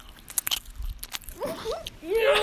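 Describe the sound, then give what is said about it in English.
Close-up chewing of a homemade pumpkin chocolate chip muffin by a person with braces for an ASMR segment, with several quick, crisp bites and mouth clicks, followed by a voice making sliding vocal sounds over the end. “It's because I'm eating pumpkin chocolate chip muffin.”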